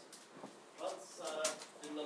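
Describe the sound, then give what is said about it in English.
A dog named Vance does his parakeet impression, making a run of high, squeaky, chirping noises, several short bursts in quick succession, fairly quiet against a faint background hiss. “He's doing his parakeet impression again.”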